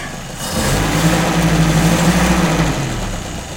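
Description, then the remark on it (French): A carburetted car with a glass-bowl fuel pump idles, then revs up in third gear into a steady, smooth drone with a rising harmonic whine, held for a few seconds before easing back slightly. Fairly loud, with no voices. “Ça n'a rien à voir, le bruit mécanique n'est plus tout de même. C'est beaucoup plus fluide. C'est une voiture moderne, tu te croirais dans les années 60.”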